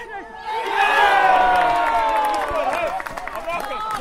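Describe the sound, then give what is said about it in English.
A football crowd, including many Dulwich Hamlet fans, roars and cheers after a goal scored straight after half-time that makes it 4-0, a loud, sustained swell of many shouting voices that rises quickly, holds for several seconds, then begins to break up into scattered yells. “Quite a lot of Dulwich Hamlet fans.”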